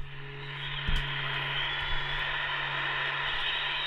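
A steady, hissing wash of crowd noise from a live concert recording on a vinyl record played on a record player, like dense applause, over a low constant hum, with two soft thumps near the start. No one speaks.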